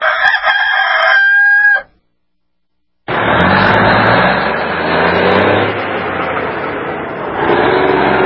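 A single loud rooster crow rings out for under two seconds, then after a brief silence a steady, broad roar like a car engine or road noise takes over.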